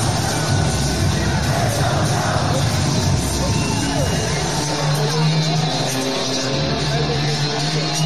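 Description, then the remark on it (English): A large crowd in Paris, France roars and sings along to Austin Theory's entrance, a loud, continuous wall of voices with scattered yells and whoops rising over the sustained chant for the whole stretch. “What about the crowd going nuts, singing along to Austin Theory's entrance?”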